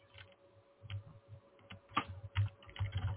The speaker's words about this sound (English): And I heard her typing.